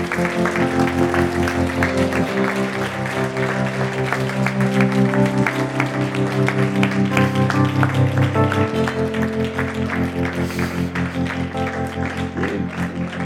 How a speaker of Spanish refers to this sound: Denle un aplauso a Dios por estas vidas.